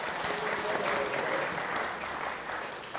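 A group of people claps together in a sustained round of applause, fairly loud and close, with a dense steady patter that eases slightly toward the end.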